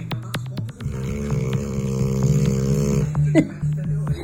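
A sleeping dog snores with a low, rumbling drone that holds steady for several seconds, starting with a few quick clicking snorts and ending in a short, louder snort.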